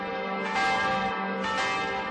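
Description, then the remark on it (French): Church bells ring out in a rich, overlapping peal, with two strong strikes about a second apart swelling over a sustained, shimmering hum of resonant tones. “puis, sur le soir, au son des cloches, il est hissé au faîte du clocher.”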